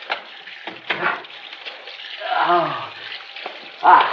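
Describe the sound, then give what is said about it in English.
Water runs steadily from a tap, a continuous splashy rush with uneven bursts, while a voice briefly groans and murmurs partway through. “Water. On my face.”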